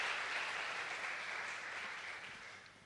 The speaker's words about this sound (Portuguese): Vamos celebrar aplaudindo o Senhor, porque o Senhor vai trazer pessoas nesse lugar.